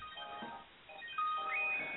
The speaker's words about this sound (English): No, it wasn't April. It was my freaking alarm went off.